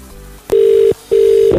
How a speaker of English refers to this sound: Okay, I'm dialing. Get quite near your phone. Here we go.